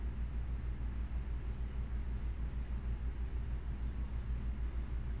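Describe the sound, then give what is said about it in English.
A steady, low mechanical hum from an air conditioning unit drones on without change, a constant rumble with a soft hiss above it and no voices. “I hear an air conditioning unit.”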